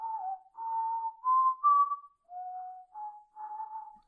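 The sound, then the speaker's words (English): Someone whistles a short melodic phrase, imitating a synthesizer theme from the Doctor Who story Castrovalva, with clear sustained notes that step up and down in pitch, fairly loud, with no talking. “That's sort of like that whistling kind of the...”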